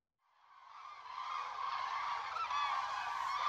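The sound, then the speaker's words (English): A dense chorus of many cranes flying in a long line over the Dordogne on their migration from the Arctic Circle to North Africa, a continuous mass of overlapping trumpeting, squeaky cries that fades in and swells to a steady, loud clamor with no speech. “up in the sky, there's a long, scraggly line of cranes passing over the Dordogne on their migration from the Arctic Circle to North Africa, singing their squeaking, mournful song as they go.”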